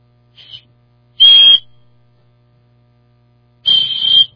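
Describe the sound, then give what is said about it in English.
A whistle blown three times by a speaker: a faint short toot, then two loud shrill blasts with a pause between, heard over a low steady hum, with no talking. “I brought a whistle with me in here. Let me see if I can blow this thing.”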